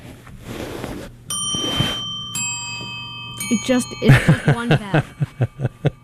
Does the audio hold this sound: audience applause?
no